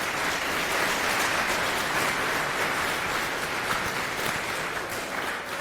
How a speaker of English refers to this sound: All right, so a round of applause for our speakers and enjoy.